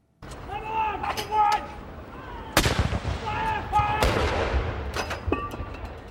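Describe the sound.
Heavy military cannon blasts boom out at a measured pace in a ceremonial salute marking the birth of a baby to the Duchess of Cambridge, Prince William's wife, each sharp report followed by a long rolling echo, with a steady background murmur and faint voices between shots.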